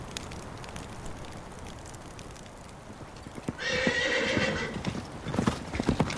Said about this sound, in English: The horses were released, running free